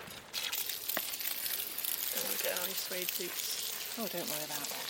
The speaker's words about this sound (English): Or do you not want it on spray? Well, I'm just watering your... broad beans.